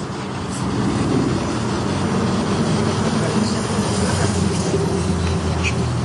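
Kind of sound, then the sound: vehicle, car driving past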